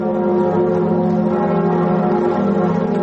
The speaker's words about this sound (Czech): Zvuk zvona na katedrali Notre Dame u Parizu narednih godina neće se čuti, jer je vatrena stihija zahvatila crkvu u aprilu prošle godine.